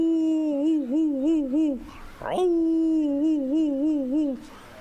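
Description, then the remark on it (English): A person imitates an old hound dog, a deer dog named Lightning, baying: two long, wavering, mournful howls, each held for about two seconds with a quick breath between them, loud. “And I remember one old hound who had seen many a race, and he was getting pretty old, and his name was Lightning, but he wasn't much like Lightning, though.”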